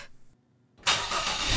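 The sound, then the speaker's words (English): A car engine cranks and catches after a brief quiet moment, then settles into a loud, steady running roar. No voices are heard. “We then started the car and we drove home in silence.”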